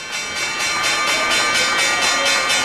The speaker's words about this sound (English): Here's the closing bell from 2013. The stock market, for one indicator, has been off the charts.